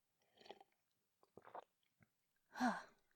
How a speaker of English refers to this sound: I'm just about finished with my tea. I'm going to have another sip.